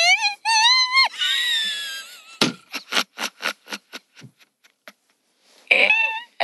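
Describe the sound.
A voice strains for a very high, thin whistle-register note, wavering and sliding for about two seconds, then breaks into a run of breathy, choppy bursts before squeaking out another short high note.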